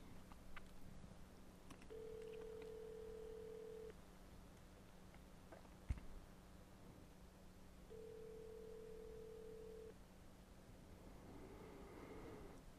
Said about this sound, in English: This is the part of the show where you get to watch me dial the phone.